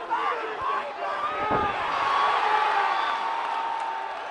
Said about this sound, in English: only to get knocked out in the first round. Listen to him hit the floor.